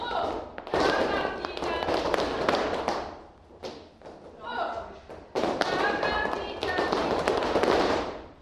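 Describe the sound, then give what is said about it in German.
Fourteen women in a dance hall, wearing high-heeled flamenco shoes, clap and stamp alternately with heel and ball of the foot in fast, dense bursts of sharp cracks and thuds. The rhythm pauses briefly twice, and a voice can be heard under the percussion. “Konzentriert klatschen und stampfen, abwechslungsweise mit Absatz oder Fußballen und dann dazu drehen und am Schluss noch die Arme kunstvoll bewegen.”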